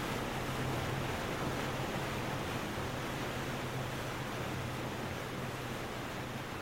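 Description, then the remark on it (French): Steady rushing sea waves wash past continuously, with a low engine-like hum underneath and some wind buffeting, heard from the deck of a boat as Funafuti disappears on the horizon. No one speaks. “Sur le pont du bateau, Tiana est dans mes bras, et je regarde longuement Funafuti disparaître à l'horizon.”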